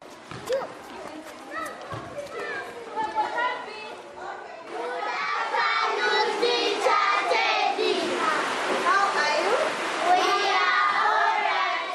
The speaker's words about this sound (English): It's raining here, and about 30 children attend a basic science lesson at Safe Street Children Homes in the Kampala suburb of Kamocha.